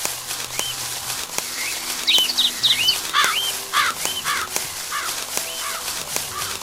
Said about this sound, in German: Ach, da kam noch einer. Hallo, Vögelchen. Vögelchen. Ganz viele.